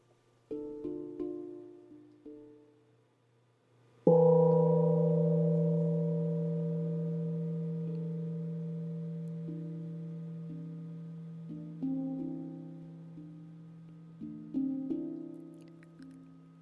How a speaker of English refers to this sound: As this meditation comes to a close, allow the sound of the gong to gently bring us from inner awareness back to our outer awareness.